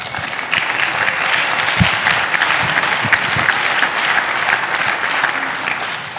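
An audience breaks into sustained applause, a dense, steady wash of many hands clapping at even loudness for several seconds with no talking over it.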